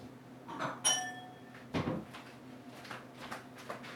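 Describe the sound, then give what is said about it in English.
A wine glass clinks with a bright, ringing tone as it's taken out of a cupboard on New Year's Eve, then the cupboard door thuds shut, followed by a few faint handling taps. “So I'm going to use a wine glass.”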